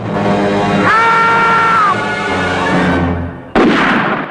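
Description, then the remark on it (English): In a woodland clearing, the character Slowbottom lets out a high, sustained scream of fright lasting about a second on realizing the figure is Odd Bod, not Sydney, over a steady wash of background noise; a sudden loud blast of Albert's shotgun bursts in shortly afterward. “Slowbottom realizes it's not Sydney and screams.”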